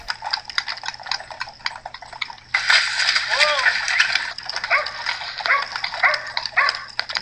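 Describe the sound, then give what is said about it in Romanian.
Steady, rhythmic clip-clop of horses' hooves as a horse-drawn carriage returns at night, joined midway by a louder wash of rattling noise and a few short, high tonal cries. “Tropotul cailor. Trăsura se înapoia.”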